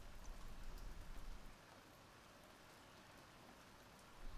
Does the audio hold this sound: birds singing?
no